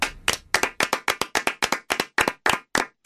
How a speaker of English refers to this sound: He doesn't sing, but he claps.